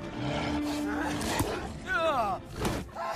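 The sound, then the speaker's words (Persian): A wolf growls and snarls in a rough, wavering burst, preceded by a sharp thud, over a dense, busy background, as wolves come out of a forest and surround a woodcutter in an audio animation. “گرگا یکی از چوبا رو محاصره میکنه. بهش قرش میده.”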